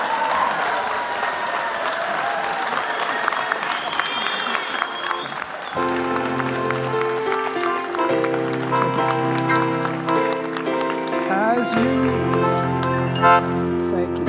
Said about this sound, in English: We ask all the winners, all the Nobel laureates, the 24/7 lecturers, and the other ceremony participants to gather here now on stage for a pointless photo opportunity. Please line up here. Feel free to applaud if you so choose.